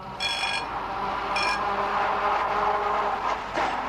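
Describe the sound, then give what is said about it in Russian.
A tram rolls along its rails with a steady rumbling clatter, and a bright bell rings twice in quick short bursts near the start. No voices. “Я кинулся вслед за ним, но высокий, пересекая улицу, неожиданно вскочил на ходу в трамвай и уехал.”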